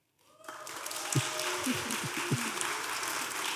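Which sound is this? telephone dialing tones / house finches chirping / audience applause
audience applause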